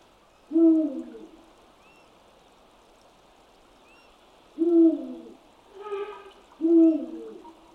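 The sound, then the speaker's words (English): Deep, resonant hoots of a Eurasian eagle owl perched on bare tree branches in a forest, a territorial song marking the area it occupies with its partner, ring out one at a time with long pauses, three strong calls and a softer one, over a steady background of running water. “Therefore, each Eurasian eagle owl has a distinctive sound which is used to identify them.”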